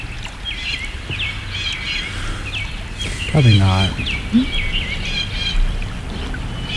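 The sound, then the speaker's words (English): Birds chirp and squawk throughout in busy, repeated high calls, with one louder harsh squawk midway. A short spoken reply is heard, and a low steady rumble runs underneath. “I feel like these birds are getting hostile.”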